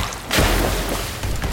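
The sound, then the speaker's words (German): Gunshots tear into water: a sudden loud, muffled boom bursts in and trails off into a dense, churning rush that stays loud to the end, with another hit near the close. “Schüsse peitschen durchs Wasser.”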